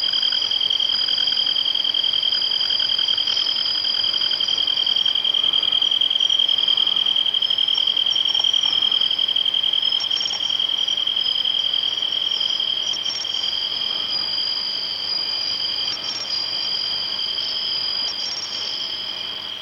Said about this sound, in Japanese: 続いてスズムシがしとやかな美声を奏で始めました。